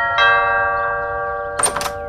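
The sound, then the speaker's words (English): A doorbell at a house on Stonebridge Road chimes a two-note ding-dong whose tones ring on and fade slowly, followed near the end by a short burst of rattling clatter. Nobody speaks. “Ring the doorbell.”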